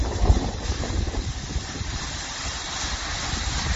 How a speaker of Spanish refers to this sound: Es el Guadiloba desembalsando agua a primera hora de la mañana por las precipitaciones caídas en las últimas horas y las que se esperan también en los próximos días.